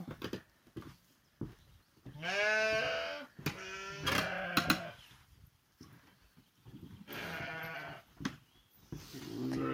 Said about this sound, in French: Alors ça c'est mon deuxième lot de... d'agnelage, il y a 18 brebis, enfin non, il y a quelques brebis vides. Et puis il y a surtout les jeunes en fait, les jeunes agnelles.